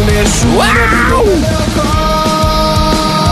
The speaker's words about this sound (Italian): L'ultimo urlo metal.